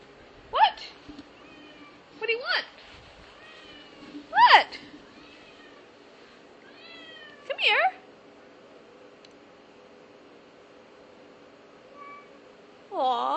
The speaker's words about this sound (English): Kitty, kitty. What's the matter? Aw, what are you meowing for? Kitty, kitty, kitty. What do you want?